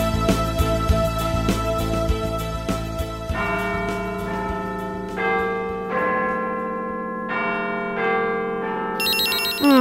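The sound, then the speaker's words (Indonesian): A telephone rings early in the morning with a bright, bell-like melodic tone, sustained notes shifting pitch in a steady pattern, fairly loud, with no voices over it. “Siapa pagi-pagi pengen sudah telepon?”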